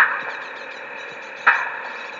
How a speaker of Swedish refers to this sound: Här har vi en flock utflugna talgoxungar.